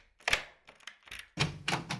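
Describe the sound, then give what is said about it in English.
A key rattles and clicks in a lock with a few sharp metallic snaps, then a door opens with a louder, longer scraping clunk. No one speaks. “At that moment, I heard a key in the door, and the door opened.”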